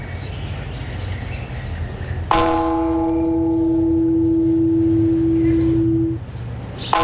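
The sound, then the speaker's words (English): A single loud church bell strike, played from a tape, rings out and hums for several seconds before fading, with birds chirping and a low outdoor rumble throughout; another strike begins just as it ends. “That's the kid swinging from the bell.”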